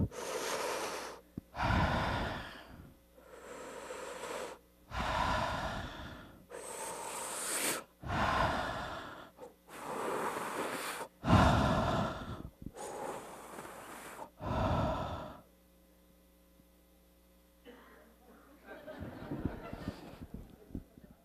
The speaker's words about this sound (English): A little exercise. You ready? I want you to take 5 deep breaths. You ready?